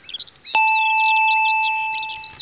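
An intercom doorbell with a small speaker grille, at a large almond-green wooden gate, gives one steady, even electronic buzz lasting about two seconds when pressed, while birds chirp and warble continuously in the background.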